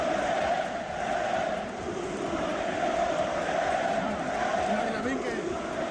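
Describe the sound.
Thousands of football fans in the stands of the RCD Stadium chant "Musulmán el que no vote" in unison in the first minutes of a match against Egypt, a dense, steady roar with a rhythmic sung cadence that swells slightly and holds loud throughout.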